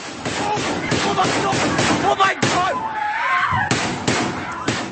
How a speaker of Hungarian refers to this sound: Az egyik diák az iskolában mobiltelefonjával rögzítette a pánikot és a közelben hallható lövéseket.